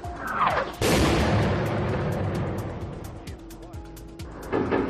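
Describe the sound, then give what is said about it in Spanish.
Gunfire in Ukraine breaking a five-hour truce between Ukraine and Russia: a heavy blast followed by a string of sharp, irregular cracks and pops, loud, with a rumbling roar and indistinct voices underneath. “Estos disparos rompían la tregua de apenas 5 horas que han concedido esta mañana Ucrania y Rusia para establecer 2 corredores humanitarios en las ciudades de Mariupol y Volombaja, 2 de las más castigadas por el asedio ruso al sur del país.”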